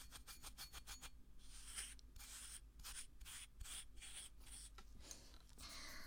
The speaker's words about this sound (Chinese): 手磨沙子的感觉好神奇啊。不一样的感觉。